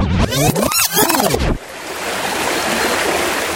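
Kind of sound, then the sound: nature, flowing river water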